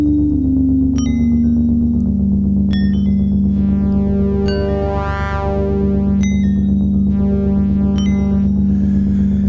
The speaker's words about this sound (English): How am I gonna do a show without a reverb? Because that does sound pretty cool.